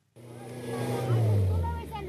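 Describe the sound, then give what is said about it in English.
A coffee truck stuck in mud in the mountainous Sarawaget Ranges of Papua New Guinea, with coffee farmers trying to free it: the heavy engine roars and strains, revving harder partway through as if struggling for traction, with indistinct voices mixed in beneath the low rumble. “These are the sounds of the Yunan Khoit farmers trying to free a coffee truck that's become stuck in the mud.”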